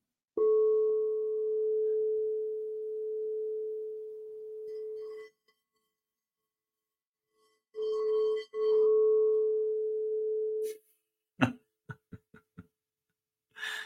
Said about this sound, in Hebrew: תכף אני אגן לכם עוד קצת, אבל תחשבו שביום שישי יש 8-9 קערות כאלה, שכל אחת מוציאה צליל אחר. וזה לא רק שאתם נהנים מהצלילים, אתם גם מנגנים.